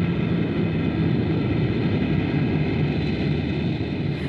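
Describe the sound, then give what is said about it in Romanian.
A steady, loud engine roar with a deep low-end rumble fills the whole recording as an airplane starts to move and takes off. No voices are heard. “Avionul se pune în mișcare.”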